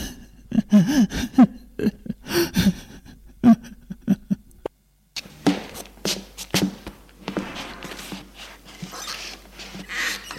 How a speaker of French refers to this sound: Pleure.